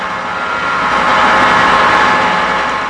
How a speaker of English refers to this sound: And yet, it's these coal-fired engines, installed when the Badger was built in Manitowoc almost 60 years ago, that are causing some concern.